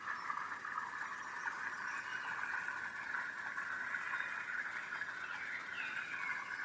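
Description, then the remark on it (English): A creek in a forest on a mountain bubbles gently and steadily, a soft, continuous wash of trickling water with a slightly bright, hissy texture and no voices or other sounds. “The gentle bubbling sound of a creek.”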